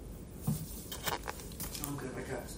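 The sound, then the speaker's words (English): Crackly crinkling of a small cough drop wrapper being twisted open, a quick series of sharp rustles and tears over a couple of seconds, with a faint voice murmuring underneath. “Oh, I got a cough drop too. I came prepared today.”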